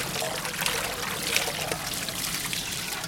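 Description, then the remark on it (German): A steady trickle of water pouring into a dough mixture, turning it into a mushier mass, with a continuous soft splashing hiss and faint mechanical whirring underneath, no talking over it. “Hier läuft das Wasser ein. Jetzt wird das Ganze schon ein bisschen so eine etwas breiigere Masse.”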